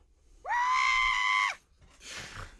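A screaming goat sound effect: one loud, sustained shriek lasting about a second, rising sharply at the start and dropping off at the end, followed by a softer, noisy rush.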